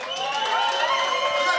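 A brief, steady burst of applause mixed with crowd cheering and whooping, dense and fairly loud throughout, with no clear pauses.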